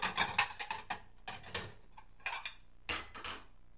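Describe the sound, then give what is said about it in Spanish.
Dishes and cutlery clatter and clink in several quick bursts with short pauses between, fairly quiet, as a table is cleared. No one speaks. “Pongo la mesa. Quito la mesa.”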